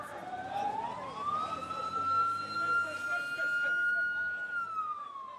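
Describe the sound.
An ambulance siren wails as ambulances pull up at a makeshift hospital near a bridge leading to the green zone. Its tone slides up and holds steady before dipping again, with muffled voices and background bustle underneath throughout.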